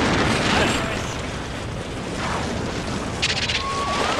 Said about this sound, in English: And oh, wait. Explosion?